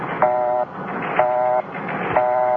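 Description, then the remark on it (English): A telephone busy signal: three short, buzzy electronic tones pulse on and off at a steady, even rhythm over a faint hiss of line noise, with no voices. “Okay, so it's a busy signal.”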